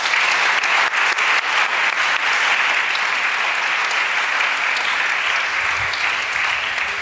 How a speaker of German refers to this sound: Von uns allen, Ihnen vieren, willkommen und Applaus.